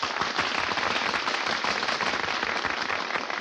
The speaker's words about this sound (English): Hey, they're applauding us.